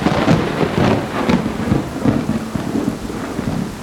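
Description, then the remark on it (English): Deep rolling thunder of a summer storm rolling in rumbles steadily over a dense hiss of heavy rain, loud, with low booms swelling and fading throughout and no voices. “I love the happy chirp of a striped rocket frog, or the boom and crash of a summer storm rolling in.”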